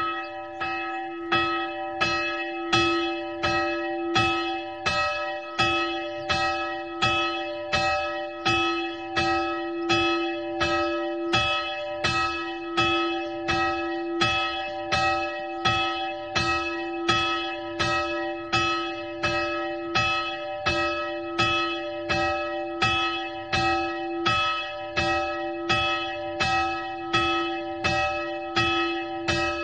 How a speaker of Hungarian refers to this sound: délidőben megszólaló 1022 kilós harangot Zeltenhofer Frigyes fiai soproni műhelyében öntötték 1926-ban